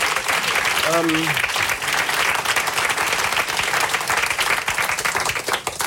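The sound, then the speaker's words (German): A crowd applauds steadily, dense clapping filling the whole stretch at a fairly loud, even level, with a brief short vocal call or whoop near the start rising above it. “Gerne Applaus dafür.”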